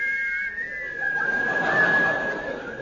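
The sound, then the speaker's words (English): Someone whistles the theme music of The Yeti, a clear, fairly steady tone held for about three seconds over a light hiss of background noise, with no talking. “They have agreed in conjunction with the NUR to play the theme music of... The Yeti! Boy, it's a catchy tune, is that, you know?”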